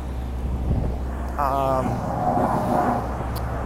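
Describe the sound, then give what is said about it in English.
A steamroller and a paving truck pouring pavement onto a street at a construction site rumble steadily, a low engine drone with a brief rising mechanical whine partway through, as the steamroller flattens the pavement; voices murmur faintly in the background. “We're now getting closer to the construction, so you're hearing a steamroller and a truck, pavement truck that's pouring pavement onto the street, and the steamroller is steaming, rolling it, flattening it.”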